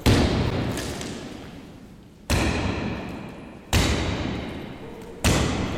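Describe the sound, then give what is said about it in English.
A huge stone cast of a man's head is smashed against a gallery wall in four loud, booming impacts spaced about one and a half seconds apart, each crash breaking into a rough, rumbling decay as drywall falls to the floor. “One of the funniest things is that he had this huge, like, stone cast of his head made, right? And he smashed it against the wall of the gallery.”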